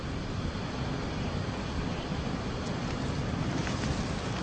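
Steady wind and surf roll on without a break at An Lộc beach by the Dương Liễu forest, Quảng Công commune, Quảng Điền district, Thừa Thiên province: a dense, rumbling outdoor wash with no distinct waves standing out. Nobody speaks.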